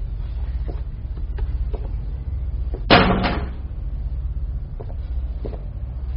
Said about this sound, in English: Come on in. Shut the door.